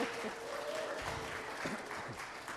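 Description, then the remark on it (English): A crowd claps steadily for a few seconds, the dense applause mixed with a few scattered cheers and voices, even in loudness throughout. “You should cheer now. Cheers.”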